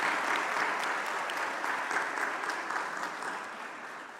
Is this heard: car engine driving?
no